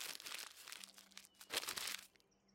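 A two-page paper flyer for a new cobbler is crumpled, a dense run of crackly, crinkling rustles that swells into a louder burst of crunching before tapering off, with no one speaking.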